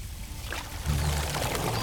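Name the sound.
water running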